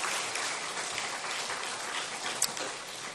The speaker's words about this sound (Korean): 할렐루야. 우리 박수로 한번 격려합시다.